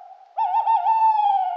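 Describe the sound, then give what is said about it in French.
A single sustained owl hoot rings out fairly loud, a steady tone with a slight wobble lasting over a second, with no talking. “La chouette lui fit de si gros yeux.”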